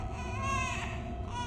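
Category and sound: human body sound, baby crying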